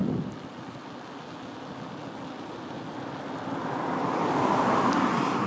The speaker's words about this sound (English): Hang on, car coming up behind me.